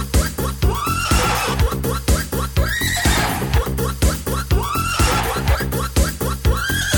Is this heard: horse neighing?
yes